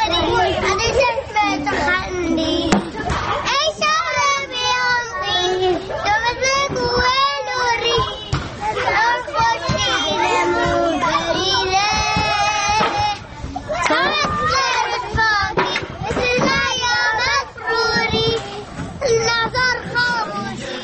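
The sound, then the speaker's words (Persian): A group of children gathered together hum a version of a song, their many overlapping voices blending into a steady, continuous melody that stays fairly loud throughout. “خب همونطور که اتدین صدای بچه هاییست که دوره هم این قطعه رو به نوعی زمزمه کردند، از این گونه آثار هم حتی میتونید بفرستید.”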